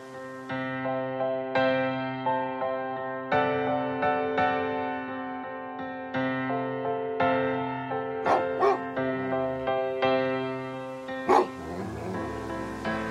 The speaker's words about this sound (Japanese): それにしてもあの犬は。 昨日までのリハのワンちゃんはどうしたんだよ。急になんであのバカ犬。